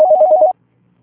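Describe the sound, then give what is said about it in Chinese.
A short burst of telephone ringing as a call comes in, a rapid warbling electronic trill that sounds loud for about half a second, then cuts off into near silence. “先这样，我这儿来电话。”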